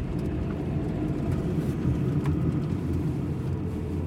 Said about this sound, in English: Porter pulls the car to a stop across the street from Luke's house.